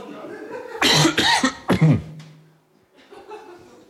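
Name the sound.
cough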